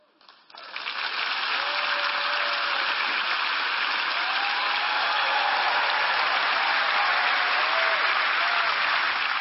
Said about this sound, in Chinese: 大声鼓掌，各位，你们都冒着雨。